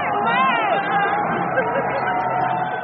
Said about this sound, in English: Thousands of Macron supporters gathered under the Eiffel Tower and counted down as the election results were announced at 8 o'clock Sunday night on the nightly news. As the winner's face popped up on giant screens, the crowd exploded.